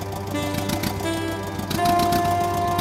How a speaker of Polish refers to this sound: Puszczamy sprzęgło i traktor rusza.